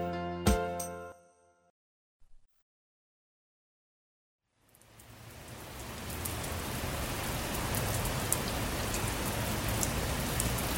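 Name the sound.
rain falling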